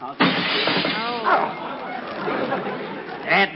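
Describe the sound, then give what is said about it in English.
The window of a doctor's car shatters with a sudden loud crash, followed by a spray of tinkling glass fragments, as someone who thought it was open sticks his head in. A voice cries out over the breaking, and another short vocal outburst comes near the end. “Nobody's got any right to have their car windows as clean as that. I thought it was open.”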